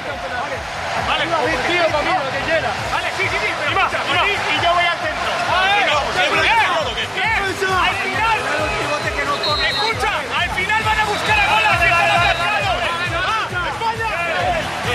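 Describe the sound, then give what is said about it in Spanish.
A large stadium crowd chants "España" over and over before the Olympic football final, many voices rising and falling together above a steady pulse of rhythmic thumps, loud and unbroken throughout. “Grito de España, España.”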